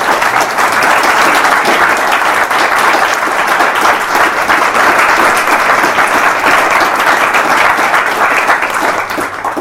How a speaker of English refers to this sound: But I think before we do so, I think we should still give John Perry an applause for Kenner Wallace.